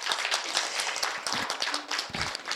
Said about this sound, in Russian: Пожалуйста, аплодисменты.